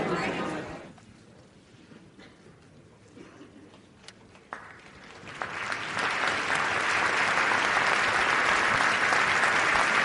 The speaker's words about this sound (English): Conductor Stefan Lano receiving the crowd's appreciation.